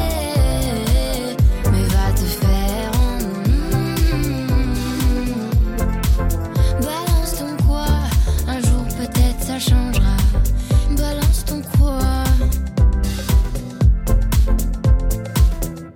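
A French pop song with a female singer plays loud and steady over a driving beat and full backing, continuous throughout with no speech over it.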